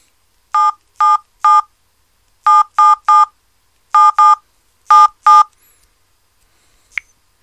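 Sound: phone keypad dialing tones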